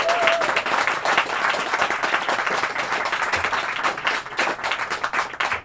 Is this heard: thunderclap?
no